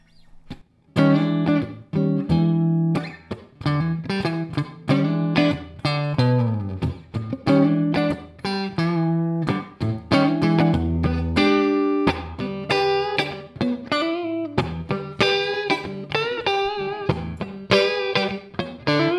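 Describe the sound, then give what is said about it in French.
Clean electric guitar through the clean channel of an amplifier with three-band EQ and no built-in reverb, played steadily with chords and single-note runs, fairly loud, dry with no reverb, and no voices over the playing. “On commence avec le son clair, mon François, lâche-toi.”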